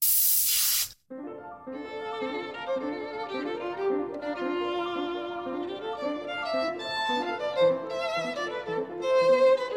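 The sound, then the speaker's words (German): A spray paint can hisses in one loud, steady burst lasting about a second, then cuts off as melodic music takes over for the rest. “Und was ich auch ganz schön finde, ist auf Holz zu sprühen, weil wenn dann zum Beispiel in dem Frauengesicht diese Holzmaserungen wieder auftauchen.”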